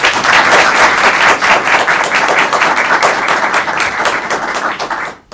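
Sustained applause from a crowd for a speech by Tayyip, dense overlapping claps forming a steady loud wash for about five seconds before cutting off abruptly at the end.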